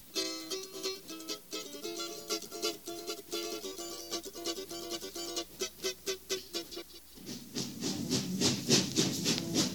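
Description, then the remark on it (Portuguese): A train moves along with a steady rhythmic clatter and tonal droning, and the rushing wind noise swells louder and fuller toward the end. No one speaks. “Vamos segurar a calça pro lado de fora do trem.”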